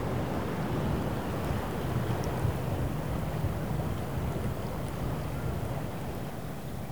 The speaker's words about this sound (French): Une plage à marée basse. Un bruit de fond, le vent, la houle qui s'est levée.